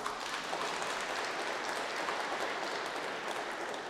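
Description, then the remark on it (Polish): An audience in the Kalisz Basilica, the National Sanctuary of Saint Joseph, claps steadily for about four seconds to welcome a priest, a dense, even wash of many hands with no single claps standing out and no voices over it. “Wielkie brawa.”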